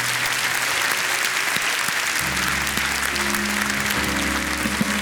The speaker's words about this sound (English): But before we do all that, would you just with a hand clap thank God for what He's teaching us?